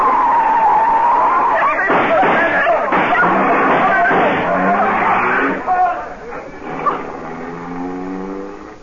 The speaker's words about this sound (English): Oh, but we struck one of them. I felt the car hit him.